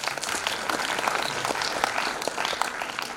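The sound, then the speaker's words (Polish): An audience at an event applauds steadily, many hands clapping in a dense, even wash of sound that holds at a fairly constant level throughout, with no voices standing out. “Dziękuję bardzo, wielkie brawa.”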